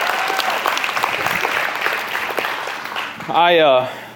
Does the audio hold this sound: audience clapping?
yes